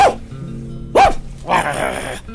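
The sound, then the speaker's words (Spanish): A dog barks a few times: two short, sharp barks about a second apart, then a longer, rougher bark-growl that trails off. “¿O un perro que haga?”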